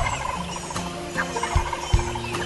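An old tom wild turkey gobbles, answering a hoot owl's call, over a textured outdoor background, with a couple of low thumps and faint chirping bird sounds around it. No one speaks.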